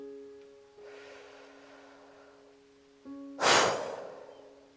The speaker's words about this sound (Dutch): Laten we beginnen met de ademhalingsoefening. We beginnen met diep inademen door de mond en we blazen alles in één keer uit via de mond. Volg mijn ademhaling.